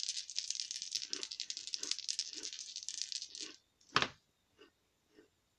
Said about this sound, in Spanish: Son tus dados de pelea. Los tiras. Recuerda las combinaciones. Pueden ser pares, tríos O al mayor.